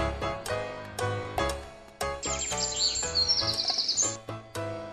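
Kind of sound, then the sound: bird, birds chirping and singing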